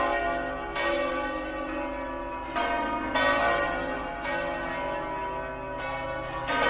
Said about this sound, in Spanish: Las campanas de todas las iglesias de Madrid han sonado a la vez durante 2 minutos en homenaje y recuerdo de las 193 víctimas de los terribles atentados del 11M de 2004.